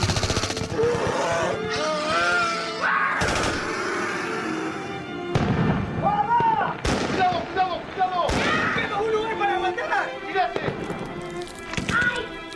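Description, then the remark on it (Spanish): Heavy gunfire from many weapons as soldiers fire at will at giant alien insects descending from a stadium stand: loud sharp blasts and rattling bursts at irregular intervals, mixed with shouting voices throughout. “¡Fuego a discreción!”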